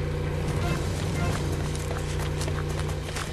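A motorboat engine starts and drones steadily and loudly as the boat speeds off toward the river, a low, even hum with a rough, rattling edge that holds without pause throughout.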